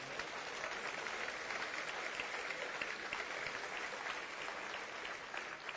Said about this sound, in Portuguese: Louvado seja o Senhor por aqueles que aplaudem a Deus, que reconhecem o seu poder.